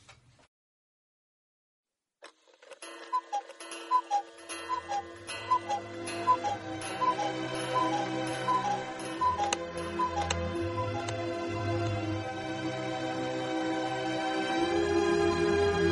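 After a brief silence, a clock ticks in a steady, even rhythm while swelling orchestral music builds beneath it and gradually grows louder, nearly covering the ticks by the end, closing the radio drama Beyond the Door, from a story by Philip K. Dick.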